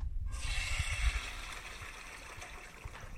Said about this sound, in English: All right, let's flush this motherfucker.